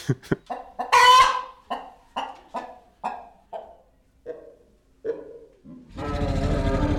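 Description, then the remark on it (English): A sound-designed T-Rex roar built from chicken sounds: a loud squawk, then a run of sharp, rhythmic clucks that gives way to a dense, rumbling roar at the end. No talking. “put all of these pieces together and make an unexplainable version of a T-Rex.”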